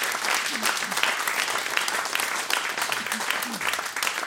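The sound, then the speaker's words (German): Steady audience applause fills the whole stretch, a dense, continuous patter of many hands clapping, with faint voices mixed into the crowd noise. “Menschenskinder, da können Sie auch mal klatschen, das hätte Sie schön gemacht.”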